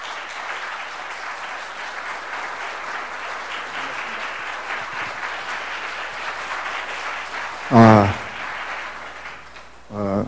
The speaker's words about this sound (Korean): 굉장히 열렬히 박수를 보내주시네요. 역시 대구는 살아 있습니다.